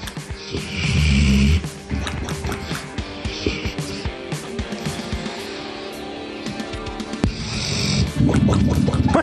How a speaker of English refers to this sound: This is a dog snoring, and then you get... Sounds like a bomb hit.